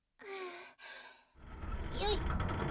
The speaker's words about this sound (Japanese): 今、倉庫の扉開けますから。